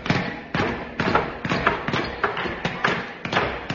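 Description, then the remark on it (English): A studio audience hammering on nails: a steady run of heavy, dull blows, about two per second, each a sharp thud with a short ringing tail, continuing evenly throughout. “What a grand sight to see the studio audience hammering nails into each other.”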